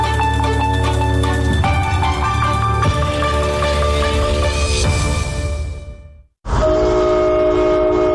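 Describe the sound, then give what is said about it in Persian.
A loud, sustained train horn blares with rich, steady chord-like tones, cuts out abruptly for a split second, then sounds again just as strongly. No one speaks. “بوق قطار، سوت کشتی، زنگ کارخانه.”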